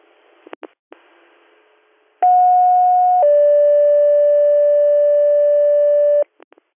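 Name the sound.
dispatch alert tones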